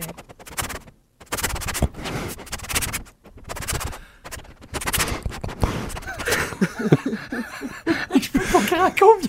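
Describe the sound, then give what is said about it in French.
A person imitates a dog sniffing in the crack under a bedroom door, with quick bursts of breathy, noisy snuffling in uneven clusters, followed by laughter from others that rises over the last few seconds. “tu sais, dans le dessous de ta porte, des fois, tu dors, là, puis il renifle en dessous de ta porte dans la craque, là, pour rentrer.”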